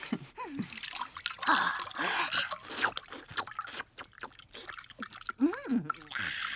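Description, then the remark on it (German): Thick tomato juice is poured into a small bowl standing on the floor, a steady splashing trickle with dribbles and drips, and a couple of short vocal sounds break in over it. “Ach, Jonas, nun gieß schon ein. Das Schälchen steht dort auf dem Boden.”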